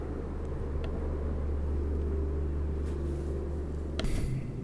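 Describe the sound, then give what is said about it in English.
A Life Flight medical helicopter landing in the street across from a high school holding a mock drunk driving car crash: a steady, heavy low-pitched rotor rumble and engine drone fills the whole stretch, with a brief brighter burst of noise near the end. “And what you hear behind me is a Life Flight helicopter landing in the street right now.”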